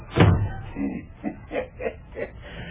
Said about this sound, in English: Well, shut the door and be private, I think.